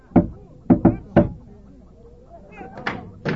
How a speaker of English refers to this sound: Gee, Goody, mind if I knock this time? Sure, Frank. Live it up.